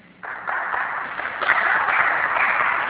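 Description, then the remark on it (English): An audience breaks into applause, a dense, steady wash of many hands clapping that starts abruptly and stays loud and even throughout, with no voices standing out. “I didn't expect applause, but it's appreciated.”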